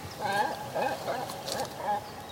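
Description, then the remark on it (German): Cormorants squabble over food on an overcast day, with harsh, guttural croaks and grunts, several overlapping calls in quick, uneven bursts, moderately loud. “Ja, das ist der Kormoran. So. Das sind die normalen Geräusche. Streiten sich gerade ums Futter.”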